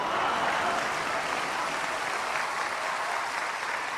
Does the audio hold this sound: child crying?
no